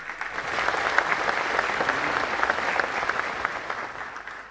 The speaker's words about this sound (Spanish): Reconocemos su acompañamiento con un fuerte y caluroso aplauso.